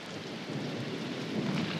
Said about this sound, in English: Did you ever watch the coming of a storm? The fog that creeps in over the land?